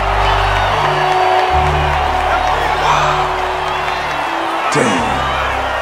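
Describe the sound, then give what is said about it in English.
A large baseball stadium crowd on its feet cheers loudly and continuously for Stan Ross, Milwaukee's Mr. 3,000, with scattered whoops rising out of a dense, steady roar that fills the whole stretch, and a low droning tone running beneath. “The crowd's on its feet.”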